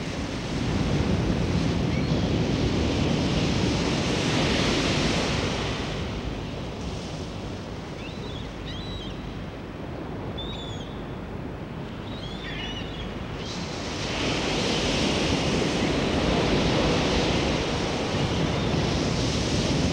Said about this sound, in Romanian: Sunetul valurilor oceanului este un sunet natural pe care mulți îl socotesc plăcut și relaxant. Este sunetul unei energii a naturii, o energie a naturii întotdeauna prezentă